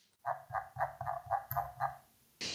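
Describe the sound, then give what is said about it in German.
A computer mouse scroll wheel squeaks out six quick, evenly spaced nasal pulses that sound much like a duck quacking, followed by a short burst of hissy noise at the end. “Mein Mausrad macht wohl angeblich das Geräusch einer Ente.”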